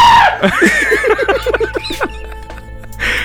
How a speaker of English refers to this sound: We need to hear how it sounds. I know. I was getting to that. Okay, go. Go. …, how do you react? Similar. Similar? Wait, yeah. I got to hear … scream, though.